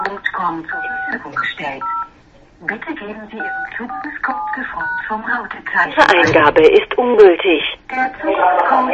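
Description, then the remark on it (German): A series of short telephone keypad dialing tones beeps out at uneven intervals, clear, interleaved with people talking, with busier overlapping voices near the end, as someone dials a phone call into a free conference call. “Ja, Moment, ich rufe auf Waldzirik, ich bin am Telefon.”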